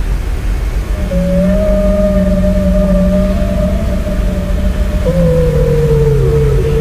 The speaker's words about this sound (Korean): 이건 고래야.